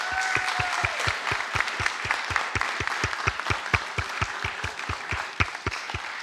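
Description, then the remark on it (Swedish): Warm applause from a crowd for the children's leaders, dense steady clapping with a rhythmic beat of emphasized claps running through it, sustained and fairly loud for several seconds without any talking. “En varm, varm applåd för våra barnledare.”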